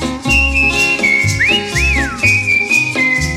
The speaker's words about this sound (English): Whistle now.